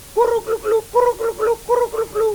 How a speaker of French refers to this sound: Le dindon.